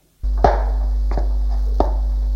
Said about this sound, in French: Tout à coup, ils entendent des pas dans la maison.